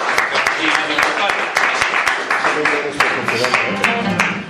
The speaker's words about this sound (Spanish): así que por favor un fortísimo aplauso para ellos.